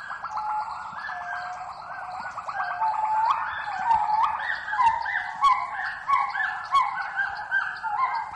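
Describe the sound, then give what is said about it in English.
A dense chorus of honking calls from rare birds and other endangered animals, many voices overlapping in a continuous, fairly loud clamor with no one speaking, in the protected forest of a wildlife rescue center near Phnom Penh, Cambodia. “Their voices sometimes can be heard, joining with those of rare birds and other endangered animals.”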